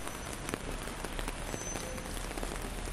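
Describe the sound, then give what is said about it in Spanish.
Steady rain patters on pavement, a dense hiss of countless drops with occasional sharper splashes standing out, continuous throughout with no voices. “Los baches son especialmente visibles cuando llueve, porque se crean auténticas pozas de agua.”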